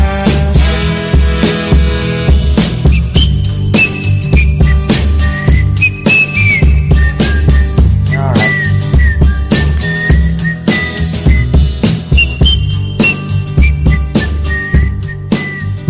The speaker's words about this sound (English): Some good whistling there.